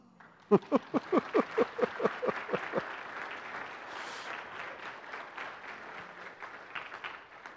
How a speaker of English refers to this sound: I want to introduce you to our newest member. I don't know how to tell you all this. Clap.